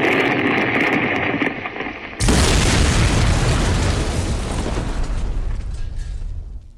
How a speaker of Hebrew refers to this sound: ביתם של החבורה פוצץ מלמעלה.